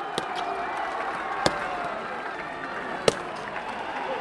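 Black-clad Pakistani rangers stomp toward their Indian counterparts at a Pakistan–India border gate ceremony: three sharp, separate stomps with crisp heel clicks ring out at uneven intervals over a steady wash of crowd noise, the middle and last strikes loudest.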